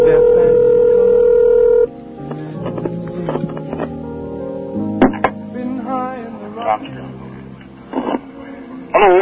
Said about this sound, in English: Oh, the phone's ringing.